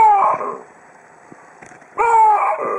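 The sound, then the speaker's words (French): Two loud, harsh baboon calls, each under a second long, separated by a short quiet pause. The cries are rich and strained, with a wavering mid-high pitch and no talking. “Alors ne mélangeons pas tout, ce ne sont pas des plantes hein, qui poussent ces cris, mais des babouins.”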